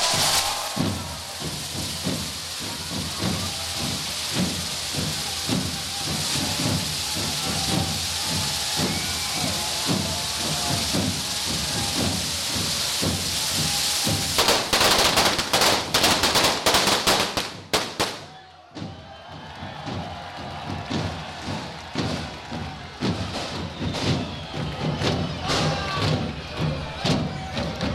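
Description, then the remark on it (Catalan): A long string of firecrackers, all bunched close together and lit from the first one, goes off in a rapid, continuous crackle of loud bangs amid hissing, briefly cutting out before a fainter stretch of popping and crowd noise follows. “Totes les masses juntes. Properes. S'encén la primera i endavant.”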